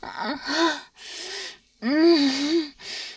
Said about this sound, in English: Breathing so quickly now. Practically panting. Moaning so loud.